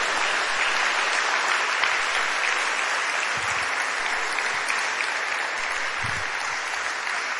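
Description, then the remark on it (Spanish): An audience applauds for the King steadily for several seconds, a dense, even wash of many hands clapping at a constant loud level with no talking over it. “Un aplauso al Rey.”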